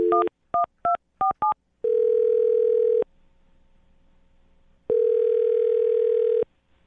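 A quick run of five touch-tone keypad beeps as a radio show host dials a woman's phone number, followed by two long, steady phone tones separated by a pause of near silence. No one speaks.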